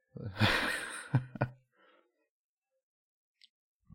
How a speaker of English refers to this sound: And the sniffing of the beer.